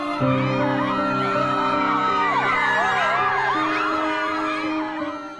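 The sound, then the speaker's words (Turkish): A dense crowd of people speaking different languages shouts and calls over one another in a chaotic, overlapping clamor, loud and continuous throughout, with a low steady drone underneath. “Farklı dilleri konuşan insanlar tam bir kargaşa içinde birbirlerine bağırmaya başladılar.”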